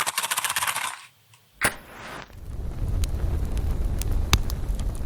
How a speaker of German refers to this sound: So, während das Feuer jetzt wohltuend im Hintergrund knistert,